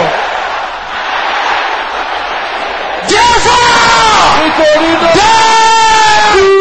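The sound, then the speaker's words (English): A large audience shouts a phrase together in unison, loud, repeating it after a speaker, following a few seconds of murmuring crowd noise; the many voices rise in a sustained, chant-like cry. “Can I hear you with a loud voice shouting this after me?”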